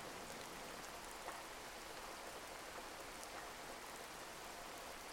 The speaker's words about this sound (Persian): به صدای بارون توجه کنید. به آرامشی که به همراهش میاد.